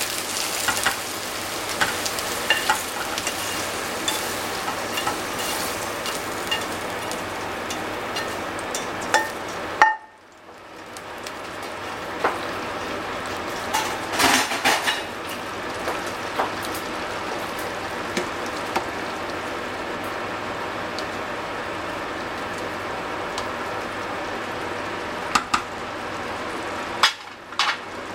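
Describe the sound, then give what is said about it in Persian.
A pot of meat and bean stew, with the meat just come to a boil, bubbles with a steady dense bubbling and crackling, a few faint clinks, and a brief drop in sound partway through. “گوشتمون جوش اومده و من لوبیا رو زیاد سرخش نکردم”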